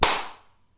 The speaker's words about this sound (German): Hast du geklatscht? Ja. Du auch? Da waren wir echt synchron.